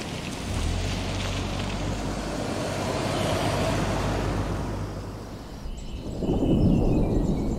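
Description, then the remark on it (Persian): A deep, rolling rumble of thunder from a thunderstorm cloud with 50 km/h wind fills the whole stretch, steady and heavy, then swells again toward the end, with a windy hiss over it and no voices. “ابر تندری و باد 50 کیلومتر بر ساعت میبینم، به نظر احتمال بارندگی هست؟”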